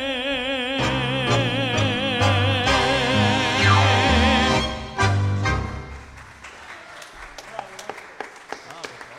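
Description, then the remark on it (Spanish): A sustained orchestral passage with a warbling vocal line swells and ends, then an audience breaks into moderate applause for the orchestra, a crackle of overlapping claps lasting a few seconds. “El aplauso para la orquesta, por favor, qué maravilloso.”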